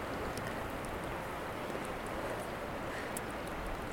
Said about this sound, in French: On entend la rivière. C'est trop bien.